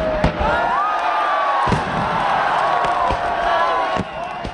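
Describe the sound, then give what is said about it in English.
Sharp fireworks bangs burst at irregular intervals over a steady roar of a crowd of tens of thousands at a New Year's celebration in Hanoi, Vietnam, with whistling, crackling streaks and excited voices throughout. “No New Year's celebration is complete without fireworks.”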